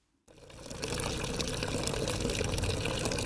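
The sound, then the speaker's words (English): Water gushes steadily from a borehole tap into a container as a housewife fetches water in Ibafo, on the outskirts of Lagos, starting abruptly after a brief silence and holding a loud, continuous splashing rush throughout. “housewife fetches water from a borehole in Ibafo at the outskirts of Lagos.”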